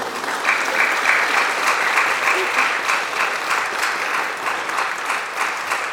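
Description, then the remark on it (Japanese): Steady audience applause from a sizable crowd at a choir's annual concert, given for the advisor of the Inuyama Boys and Girls Choir: a dense continuous patter of many hands clapping at a fairly loud, even level throughout, with no voices standing out. “拍手してください。”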